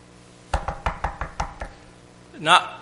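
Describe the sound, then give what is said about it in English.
A quick series of about seven sharp knocks rapping out in a loose rhythm, fairly loud, followed after a pause by a brief voiced sound. “Knocking is not just a thump. It's often not just one set of knocks.”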